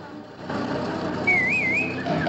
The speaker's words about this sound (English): On Potter's whistle, Benson, Constable and Gorse come out of hiding to join him.